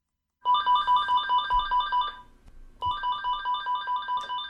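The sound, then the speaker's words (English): An office telephone rings in two bursts of rapid electronic trilling, each lasting a couple of seconds with a brief pause between, fairly loud with faint room noise underneath, at a real estate company office in Millinocket, Maine. “hours would sometimes pass before the phone would ring at his Northwoods Real Estate Company in Millinocket.”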